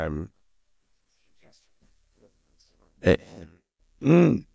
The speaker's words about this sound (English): Also, I have to clear my throat.